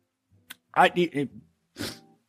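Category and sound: human body sound, nasal sniffing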